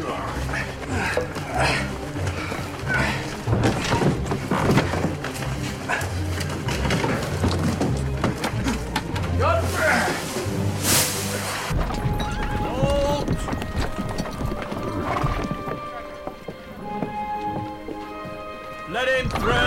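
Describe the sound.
Horse hooves clip-clop in a steady rhythm for several seconds, then a horse neighs. Voices can be heard faintly in the background.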